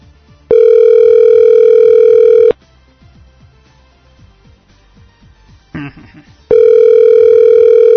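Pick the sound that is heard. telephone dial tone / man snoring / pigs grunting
telephone dial tone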